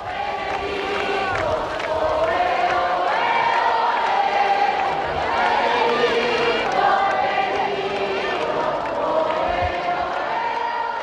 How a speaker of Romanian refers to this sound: La sosire, pontiful a fost întâmpinat pe lângă familia regală a Spaniei și de cele mai înalte autorități ale statului de o mare mulțime de credincioși vădit entuziasmată.